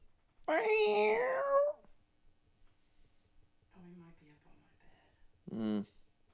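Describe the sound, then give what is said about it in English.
A male cat answers a person talking to it, letting out a loud, drawn-out meow, followed by a soft murmuring voice and then a brief, sharper second call. “Yeah, now he's squeaking all the time because you taught him how to talk.”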